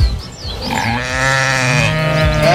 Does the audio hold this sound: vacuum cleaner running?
no